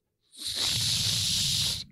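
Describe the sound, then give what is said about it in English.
One long breathy blow through the small whistle on a survival bracelet, lasting about a second and a half: a steady airy hiss with only a weak, barely-there whistle tone, then it cuts off. “It's a survival bracelet. One, if you're caught, stuck somewhere, it's got a whistle.”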